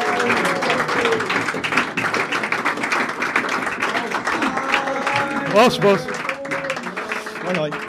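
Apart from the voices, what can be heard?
audience applause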